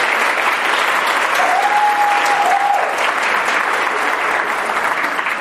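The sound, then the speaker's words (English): A crowd claps steadily and loudly for several seconds, a dense, continuous round of applause for a woman being thanked, with a single sustained whistle cutting through partway. “I think everybody should give Ann Carr a big round of applause.”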